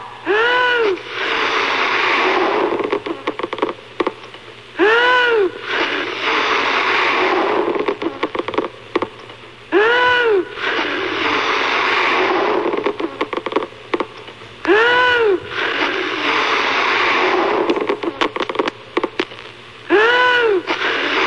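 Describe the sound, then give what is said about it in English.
Loud, rushing puffs of breath blow steadily into a funny-shaped balloon in the WPGC radio studio's Balloon Buster contest, broken by brief pauses, while a squeaky rising-and-falling tone repeats about every five seconds. No one speaks. “how many puffs do you think it'll take before our balloon buster pops another good guy balloon here?”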